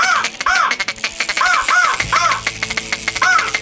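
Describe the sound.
A person imitates an American crow's harsh cawing, a quick series of loud, rasping calls in an uneven rhythm, continuous for a few seconds with no talking.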